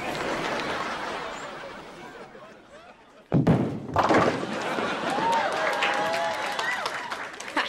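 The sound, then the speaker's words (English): A bowling ball lands with a sudden heavy thud, then rumbles as it rolls across a hard floor, under a steady background of crowd noise and chatter. “Yo, why do you have a bowling ball?”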